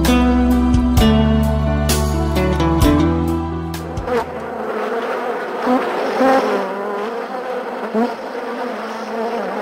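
Bees buzz loudly on a farm, a dense droning hum with steady harmonic tones at first that break into a busier, swirling swarm sound. No one speaks.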